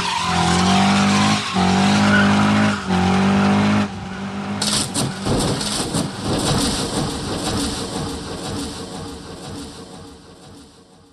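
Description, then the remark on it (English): Race car engines roar and tires screech loudly for a few seconds, then a chaotic crash of about 20 cars colliding at around 180, grinding metal and scattering debris rumbling on, with no voices. “And if you think it's fun watching two football players run into each other head first at 20 miles an hour, how about 20 cars crashing into each other at 180?”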